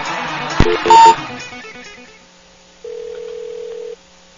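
A phone line rings out with one steady electronic ringback tone lasting about a second, after a brief clatter and a short beep at the start. No one speaks.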